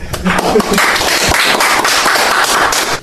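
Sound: audience clapping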